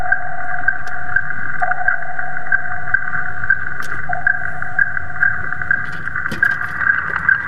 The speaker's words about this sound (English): We're all familiar with this sound, right? It's the repetitive ping of sonar.